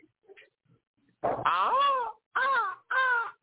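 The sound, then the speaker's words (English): A person imitates a crow's call with three loud, raspy caws, one long and drawn out, then two shorter ones in quick succession, with no talking. “Bird call”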